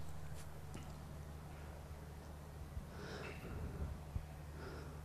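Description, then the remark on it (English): Faint, quick snuffling sniffs from two dogs, one a black Labrador, nosing at each other and circling, a few short nasal bursts over a steady low background hum, with no talking. “He's just still doing the sniffing and circling, but he's making it very clear he's bigger.”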